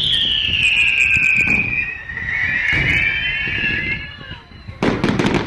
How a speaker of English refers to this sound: Next, a series of colored aerial bursts, each launched from a mortar with a forceful shoom.